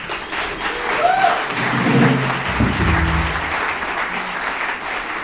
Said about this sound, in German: Nochmal einen riesen Applaus